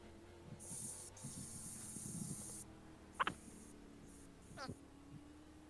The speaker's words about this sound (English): Who's spray painting?